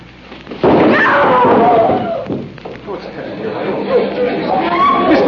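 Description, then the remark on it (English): In a radio drama, a sandbag dropped by a stagehand falls onto an actress as she steps on stage for her entrance, landing with one sudden heavy loud thud, then a crowd breaks into agitated overlapping chatter that continues to the end. “now Miss Michaels has been hit by a sandbag”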